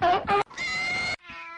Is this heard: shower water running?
no